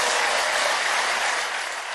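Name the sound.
prolonged applause in parliament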